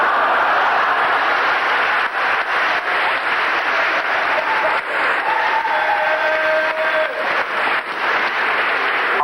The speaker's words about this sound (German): Ich wusste es genau, ein paar Leute klatschen immer.